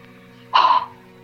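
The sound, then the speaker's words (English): A single short, harsh bird call rings out, lasting about a third of a second over a faint steady hum, with no talking. “Ah, I saw a flash of red around the corner up ahead, but it's only a bird.”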